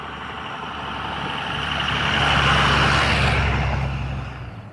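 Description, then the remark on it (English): A heavy diesel truck rumbles past, its deep engine drone and road roar swelling to a peak midway before easing off as it moves away. No voices are heard. “Diesel truck.”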